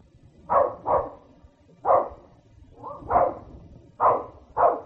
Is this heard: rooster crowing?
no